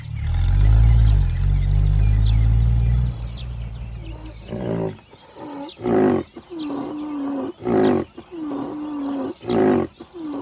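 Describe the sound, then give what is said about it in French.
A rhinoceros in Namibia lets out a deep, loud bellow for a few seconds, then gives several shorter rumbling grunts in an uneven rhythm, with no talking. “Un rhino! Oh, professeur, il est magnifique!”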